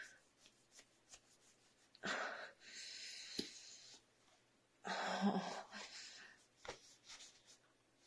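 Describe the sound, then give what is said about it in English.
Heavy, rasping breathing: a couple of long, loud, noisy breaths separated by quieter pauses, with a few faint shuffles in between and no talking. “It's my normal breathing.”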